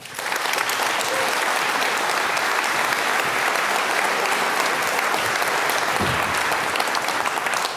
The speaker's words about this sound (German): Bitte begrüßt mit einem ganz, ganz großen Applaus